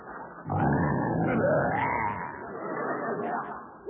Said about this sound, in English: You're not afraid of that lion, are you? Of course not. He roars again, I'll go in that cage and slap his silly face.